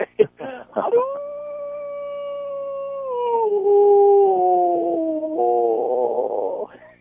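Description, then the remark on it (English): After a few short breathy bursts, a person's voice imitates a wolf howl: one long, loud, sustained wail that holds steady, then dips and wavers in pitch before fading out. “All right, before you go, give me the wolf call one more time.”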